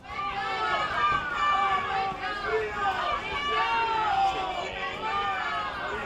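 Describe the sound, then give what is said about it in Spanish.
A crowd jeers and boos loudly and continuously at State Attorney General Álvaro García Ortiz as he arrives by car at the Tribunal Supremo shortly before 10 in the morning, many overlapping voices shouting and hooting, with no pause for the full six seconds. “Un grupo de personas ha recibido así con abucheos a García Ortiz, que llegaba al Supremo minutos antes de las 10 de la mañana en coche”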